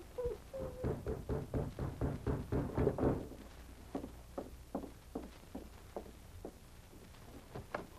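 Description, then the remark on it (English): Heavy footsteps approaching a cabin thud in a quick, steady rhythm, loud for the first few seconds, then continuing more softly. No one speaks. “A low growl rumbled in his throat, and he rose as he heard heavy footsteps approaching the cabin.”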